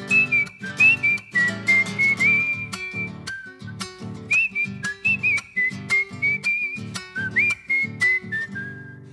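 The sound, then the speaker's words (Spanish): A person whistles a lilting folk tune, the clear pitched melody rising and falling in short phrases over a steady, rhythmic strummed accompaniment. No one speaks. “Este humilde gatito, alegre y criollito, que de un silbido brotó.”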